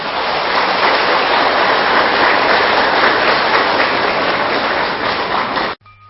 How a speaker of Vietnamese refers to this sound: Nếu quý vị thấy việc làm này là có thể thực hiện được trong tầm tay của mình và mình hạnh phúc để làm, xin dâng cao tràng pháo tay.